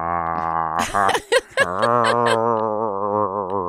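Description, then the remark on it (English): A person gargles in a low, wavering voiced growl that imitates a dog growling while playing tug of war with a sock. It runs several seconds with a short choppy break partway through, then resumes steadily. “That's the sound my dog makes when we're playing tug of war with a sock.”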